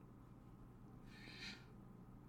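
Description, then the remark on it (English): A single brief, faint bird call outdoors rises out of a low steady background hum around the middle of the moment; no talking. “You might hear the birds today a lot.”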